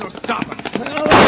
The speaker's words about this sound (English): somebody's shooting at that stage.